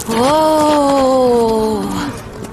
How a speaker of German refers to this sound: Warte, die Kuh wird langsamer.